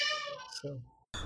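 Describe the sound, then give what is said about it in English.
A cat gives a single drawn-out meow with a falling pitch, followed by a voice speaking briefly. “I heard about either a baby or a cat in the background.”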